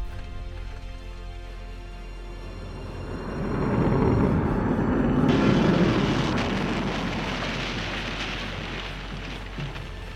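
A steady roar of rushing air as an aircraft with no engines glides down to crash-land in countryside outside London, swelling louder midway and then slowly easing off. Nobody speaks.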